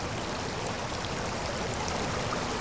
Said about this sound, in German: Dann öffnete sich plötzlich eine große Steinkugel. Das Wasser ergoss sich in den Gang und den am anderen Ende liegenden Raum. Der Sog riss an mir und ich hatte Mühe, auf den Beinen zu bleiben.